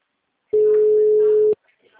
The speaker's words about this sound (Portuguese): O número está ocupado.